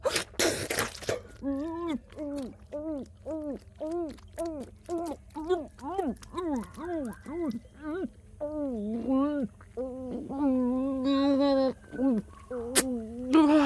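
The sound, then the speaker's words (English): Birds call outside in a long, steady run of rising-and-falling hooting notes, clear, after a brief rustling burst at the start. “I hear birds outside, meaning that our time is nearing its end.”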